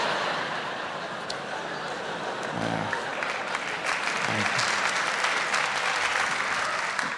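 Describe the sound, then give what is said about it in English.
Sustained audience applause, a dense wash of clapping that holds steady for several seconds, with a few brief low murmurs or chuckles rising from the crowd partway through. “Thank you for the jaded applause.”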